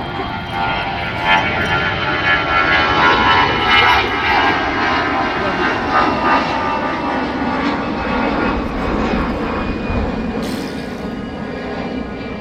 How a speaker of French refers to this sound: Alors là, on est sur la commune de Wissous. On est de l'autre côté du terrain d'aviation d'Orly, juste en face d'Orly. Et nous avons contourné donc le terrain pour pouvoir assister tranquillement au décollage des avions.